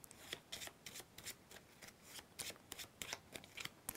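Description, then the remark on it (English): Two sets of playing cards, a flush in diamonds and a flush in clubs, being shuffled together: a run of quick, crisp riffling flicks and soft slaps in an irregular rhythm, fairly quiet, with no voices. “And we're going to mix these together. Just a little shuffle up.”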